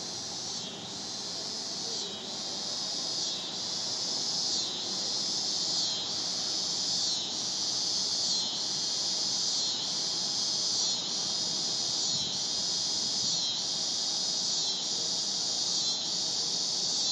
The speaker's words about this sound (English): I want you to hear the cicadas.